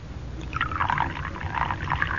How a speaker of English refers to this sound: That's it. Now unscrew the top. That's it. Now pour it into the cocoa.